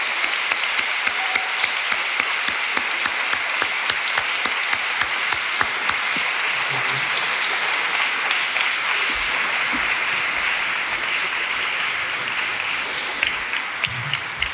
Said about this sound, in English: Please join me in welcoming them and our moderator, Natasha Mitchell, with the warm applause they richly deserve.